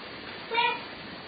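A cat lets out a single short, whiny meow, rising briefly above a steady background hiss and then fading. No one speaks.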